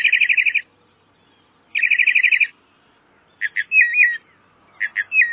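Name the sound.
northern mockingbird singing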